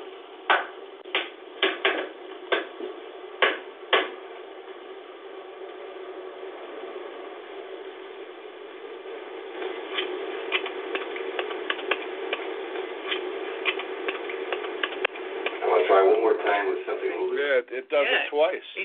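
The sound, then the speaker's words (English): A series of sharp knocks answering a person's knock and mimicking it twice, several spaced raps at first and then a quicker, irregular cluster of taps, on a thin, hissy recording with a steady background hum. “It mimics his knock twice.”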